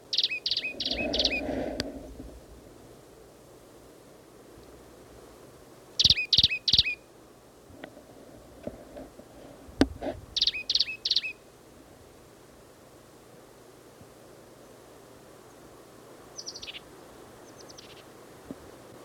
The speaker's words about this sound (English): This is the plain titmouse again, same as last time. He's sitting up in the top of the scrubby oak.